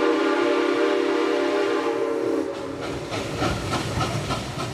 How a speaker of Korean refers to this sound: 네, 들리는 것처럼 이 기차가 개통됐군요. 네, 당시 미국 최대의 철도업자인 밴더빌트라는 사람이 석유 운송 사업을 장악하기 위해서 클리블랜드까지 진출을 한 겁니다.